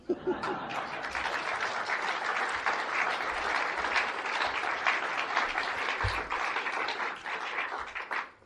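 A crowd at a poetry reading applauds steadily for about eight seconds, a dense wash of many hands clapping at an even loudness, with a few faint chuckles mixed in near the start.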